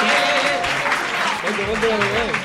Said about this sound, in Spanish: Venga, un fuerte aplauso para él. ¡Mastodonte!